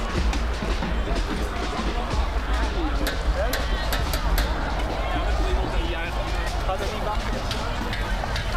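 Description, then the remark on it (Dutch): A deep, steady rumble of a passing airplane rolls beneath the loud, continuous hubbub of a crowd, with many indistinct voices and scattered sharp knocks above. “Commandant door zijn megafoon met de toespraak bezig is dat hij een paar keer waarschuwt dat er dan geweld gebruikt zal worden, tendert er weer een vliegtuig langs.”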